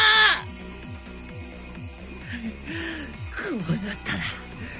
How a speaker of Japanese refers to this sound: くそ、まただ。時計だけじゃない。壁の絵からもテーブルからもアラームが鳴ってる。もう最悪だ。